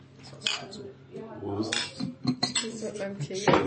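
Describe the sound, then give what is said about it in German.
Glasses clink together in a toast, several bright, sharp knocks, with voices and rustling around them. “Dann sag ich mal Prost.”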